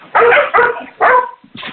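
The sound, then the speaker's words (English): A dog barks three times in quick succession, loud, followed by a softer, shorter yelp; no voices accompany it. “All right, whoever has the dog and the background noise, please mute.”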